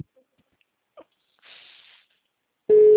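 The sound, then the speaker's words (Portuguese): A phone beeps in the speaker's ear during a call: a single loud, steady mid-pitched electronic beep near the end, following a couple of faint rustling noises and otherwise quiet stretches. “Mas esse negócio tá pitando aqui no meu ouvido, por quê, gente? Ah, meu telefone.”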